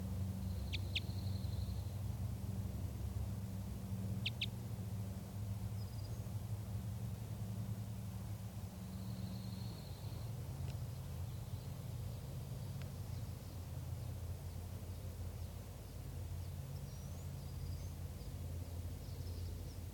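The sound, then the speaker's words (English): A wild bird gives a few sharp, brief alarm calls in quick pairs, spaced several seconds apart, apparently in response to a flock of four gray jays arriving, over a steady low outdoor rumble with faint higher whistles. “Recording, the wild bird is giving alarm calls here, I think, in response to a flock of four gray jays who arrived on the scene.”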